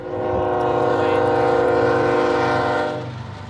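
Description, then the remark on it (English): A train passes on the tracks in Bay Point by the Delta, Contra Costa County, its horn sounding one long, loud, steady blast for about three seconds over a low rumble before cutting off. No one speaks. “Dr. Joseph Mega walks along the train tracks in Bay Point by the Delta.”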